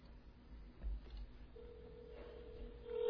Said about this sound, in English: You can hear it ringing, so it's working.